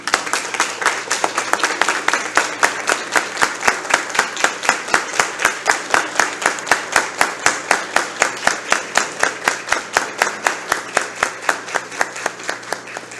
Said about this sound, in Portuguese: Eu gostaria agora de quebrar o protocolo, se o presidente me permitir, de pedir às autoridades que se ficassem de pé para que a gente pudesse fazer uma salva de palmas para vocês, que tanto merece.